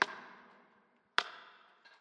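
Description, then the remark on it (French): A clock ticks slowly: two sharp, bright clicks about a second apart, each leaving a long metallic ringing tail, followed by a fainter third tick at the end. No voices. “Et le tic-tac de l'horloge.”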